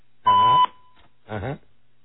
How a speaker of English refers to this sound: And I'll record your message at the tone. When you're finished, hang up or stay on the line for further options.